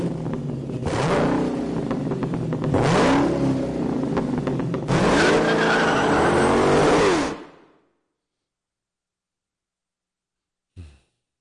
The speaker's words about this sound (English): It's got that little almost sort of a jet engine hum in it, the way that Kit and Knight Rider did, or just the way that jets do. It actually sounds like it's audio layered with a bunch of stuff. Car, a Harley, and a little bit of Boeing. Makes sense.